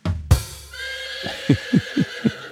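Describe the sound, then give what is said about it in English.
A horse neighs loudly: a sharp onset, then a high, wavering whinny that breaks into several rhythmic, snorting pulses before fading out. “And the horse world she was so famous in? Well, they said, nay.”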